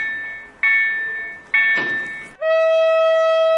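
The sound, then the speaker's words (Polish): Loud train horn sounding the RP1 'attention' warning signal, a series of sustained blasts that shift in pitch, finishing with a long, steady multi-tone chord; no voices are present. “Sygnał RP1, baczność. Właśnie o tym sygnale mówimy.”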